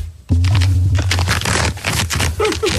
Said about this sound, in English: Here is my squeaking trousers for Friday.